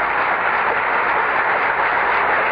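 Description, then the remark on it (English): Standing audience members in the East Room of the White House applaud before Gerald Ford takes the oath of office as President, a dense, even wash of many hands clapping that holds at a constant loud level throughout, with no voices heard. “Past the applauding standing members of the audience.”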